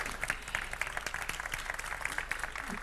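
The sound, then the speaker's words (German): Steady applause from an audience at the start of a talk, a dense patter of many hands clapping at moderate volume, continuing evenly without voices standing out. “Applaus am Anfang ist immer super”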